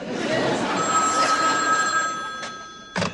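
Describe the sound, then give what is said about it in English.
A telephone bell rings continuously with a bright metallic trill, fairly loud, over a busy background, followed by a couple of short sharp clicks or bursts near the end. “Can I answer the phone?”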